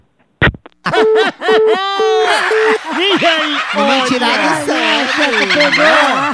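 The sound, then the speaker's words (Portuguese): A person imitates a clucking hen, starting with a quick series of short, rhythmic clucks that turn into a longer stretch of loud, warbling squawks. “Uma galinha.”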